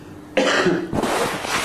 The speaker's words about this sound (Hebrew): מה זה, אבא משתעל? איך הוא עושה?